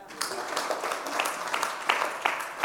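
A small group claps together in a brief burst of scattered, overlapping hand claps at moderate loudness, with faint voices mixed in the background.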